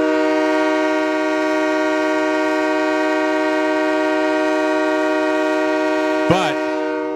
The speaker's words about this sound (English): I like that train horn for a super chat.